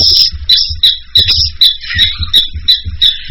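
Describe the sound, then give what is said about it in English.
A pet bird chirps and squawks repeatedly in quick, bright bursts, loud, with a steady rhythm of sharp high calls and no talking. “and there goes my bird.”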